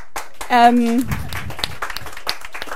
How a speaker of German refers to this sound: Der Applaus ist für Gott, das ist klar, ne?